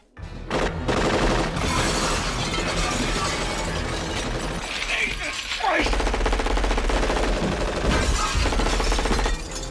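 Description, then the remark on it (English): Loud, relentless bursts of automatic gunfire mixed with shattering glass, a dense, continuous barrage lasting about ten seconds, with faint voices buried underneath. “Shoot the glass.”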